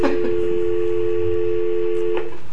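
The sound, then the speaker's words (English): A steady, loud telephone dial tone hums throughout as a borough assembly meeting in Petersburg dials to call back two members who were participating by phone, broken by a couple of brief clicks or keypad beeps near the start and toward the end, with no one speaking. “For the people in the radio audience, we lost our two members that were participating by phone. We'll give them a try, and if it doesn't work, we'll continue on.”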